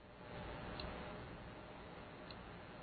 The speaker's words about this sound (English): So it's ticking about, I'd say, once a second. Right? Is that about accurate? Yeah, once a second, and I don't have my like metronome with me for comparison.